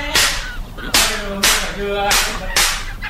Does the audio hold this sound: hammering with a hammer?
yes